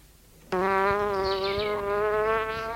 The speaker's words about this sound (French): Tout à coup, on entend la mouche qui se trouve dans la cuisine.